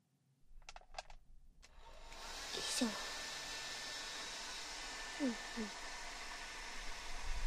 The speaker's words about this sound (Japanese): よし。こんなもんかな。じゃあ次はドライヤーしてくね。